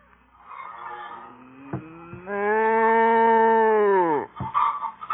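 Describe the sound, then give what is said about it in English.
A cow lets out one long, loud moo, holding steady before sliding down in pitch at the end, with faint shuffling and knocks around it, in a barn on a work farm. “Stand still, cow, will you?”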